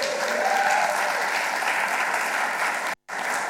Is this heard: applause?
yes